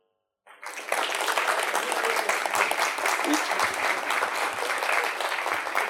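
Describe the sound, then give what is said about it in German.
An audience breaks into applause after a brief silence, short clapping as a vote for a lady at the front to win a book, many hands clapping in a dense, steady roar that holds at full strength for several seconds. “Und durch kurzes Klatschen bestätigen, wer was gekriegt hat und wer am lautesten, bei wem am lautesten geklatscht wurde, kriegt dann das Buch.”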